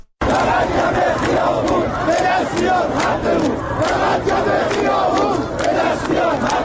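A large crowd of protesters in Shahrekord chants slogans about water in unison, loud and continuous, with rhythmic shouted phrases repeating over a dense wash of many voices.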